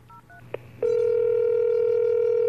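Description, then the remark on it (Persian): A couple of quick keypad beeps and a click as a phone number is dialed, then a loud, steady telephone tone hums on without a break, clear with no voices. “همونجا رو تخت گوشی رو برداشتم و شمارش رو گرفتم.”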